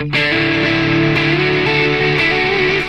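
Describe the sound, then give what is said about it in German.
Sustained, slightly distorted electric guitar notes run through a delay effect with the reverb switched off, repeats trailing and smearing into one another for a wet, spacious sound, played loud with no voices. “ist der Sound immer noch genauso wet wie vorher. Das ist so, Delay ist für mich einfach so das Ding, wo ich sagen muss, okay, damit kann ich so viel machen.”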